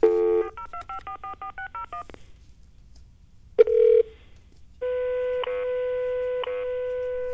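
touch-tone telephone dialing

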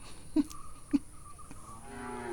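cow mooing

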